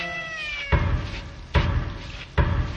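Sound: black cat meowing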